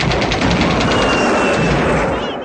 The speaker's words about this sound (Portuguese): Imediatamente os policiais militares, os rodoviários e o BOP, Batalhão de Operações Especiais, foram para o local. Houve intensa troca de tiros.